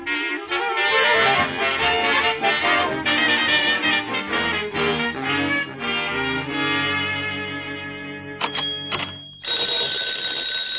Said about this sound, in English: I'm just come back, but already my phone is ringing.